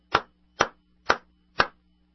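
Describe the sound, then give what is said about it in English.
A slow, light golf clap: four soft, sharp claps spaced evenly about half a second apart, with a faint low hum underneath and no voices. “A little golf clap for working people.”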